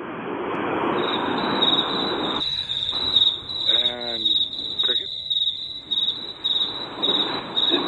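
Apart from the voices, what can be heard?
crickets chirping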